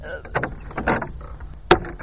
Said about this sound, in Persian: قصوال نکو، دروازه رو باز کو.